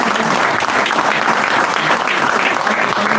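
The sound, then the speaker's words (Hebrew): Steady, dense applause from an audience fills the whole stretch, loud and continuous with many hands clapping at once and no voices rising above it. “איפה כפיים, אחיה?”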